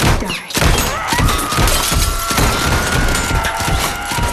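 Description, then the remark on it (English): Loud gunshots fire in a rapid series from an observation room as a large two-way glass mirror shatters, the crash and scattering shards continuing under the repeated shots. “Allie shoots the two-way mirror from the observation room. It shatters. She continues firing.”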